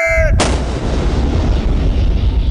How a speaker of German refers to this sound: Mehrere Stunden lang hallt Kanonendonner über die Küstengewässer.